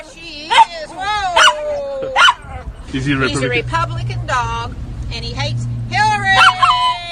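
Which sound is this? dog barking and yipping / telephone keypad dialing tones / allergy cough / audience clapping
dog barking and yipping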